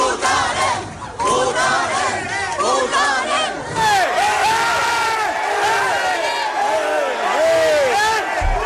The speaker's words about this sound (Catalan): Aquests són els crits de la gent aterrida per la repressió de la policia i la Guàrdia Civil també